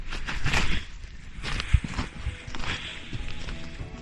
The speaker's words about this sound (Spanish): Y así suenan las pisadas sobre esa lava, sobre la montaña de lava, para poder medir desde allí la temperatura y la emisión de gases.